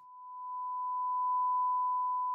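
A single steady, high, pure sine tone holds one pitch for a couple of seconds, synthetic, static and free of overtones, fading in slightly at the start and cutting off abruptly.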